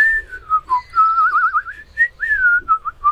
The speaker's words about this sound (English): Hey, I just whistled.